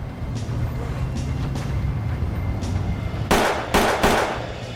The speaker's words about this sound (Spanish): Uno disparó tres veces y salieron huyendo. Los disparos se oyeron en todo el vecindario.